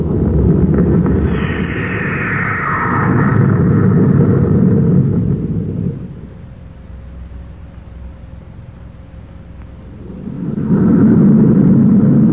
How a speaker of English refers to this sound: Have stand by for blast off. Standing by, sir. Close port. Fire jets.